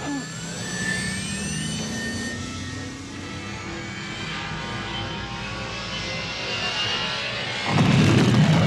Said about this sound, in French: En fait, c'est un mélange de moteurs de je sais plus quoi filtré avec un son d'éléphant. Si vous écoutez bien. C'est un barrissement d'éléphant.